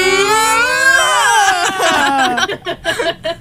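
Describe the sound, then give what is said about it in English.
A voice imitates the noise of planes departing Logan Airport in Boston, a sustained harmonic whine that rises then sweeps downward, breaking into choppy, sputtering bursts toward the end. “That's the noise that the planes make.”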